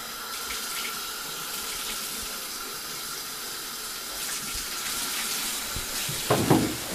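Tap water runs steadily for a 14-month-old baby's 7 o'clock bath, with a broad, hissing rush that holds for several seconds, swelling slightly toward the end with a brief splashy burst near the close.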